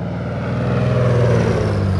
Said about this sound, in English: The short route to Romaine Wheeler's cliffside home in Mexico's Copper Canyon is on a 5-passenger charter plane